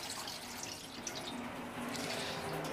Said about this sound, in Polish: I leje nam się woda po prostu tutaj do takiej wanienki. Tak wyglądał pierwszy prysznic.